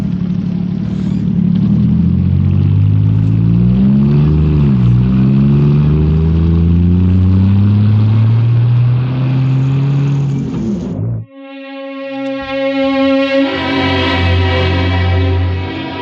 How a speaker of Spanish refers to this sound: Se acomoda en el asiento frente al volante y pone en marcha el automóvil.